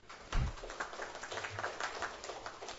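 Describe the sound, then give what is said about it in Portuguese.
An audience applauds in worship of God after a prayer, producing a steady, dense patter of many hands clapping together for a few seconds at moderate loudness, with no voices standing out. “E você pode adorar a Deus com a salva de palmas.”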